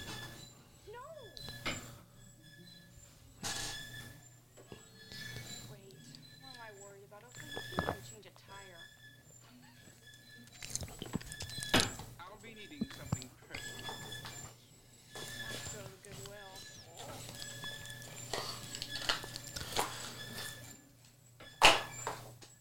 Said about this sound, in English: And this dryer is being squeaky as crap. Love that.